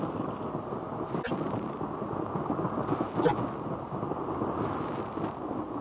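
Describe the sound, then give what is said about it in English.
A steady, thunderous roar of rushing water in a dark rocky tunnel as a boat shoots through, echoing and reverberating from the rocky walls, dense and rumbling with deep low end, broken only by a couple of brief sharp knocks. No one speaks. “The rushing of the waters echoes and reverberates from the rocky walls with a noise like thunder.”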